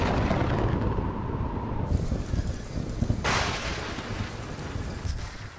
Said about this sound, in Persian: هوای بیرون تبدیل شده به یه طوفان استوایی تمام عیار.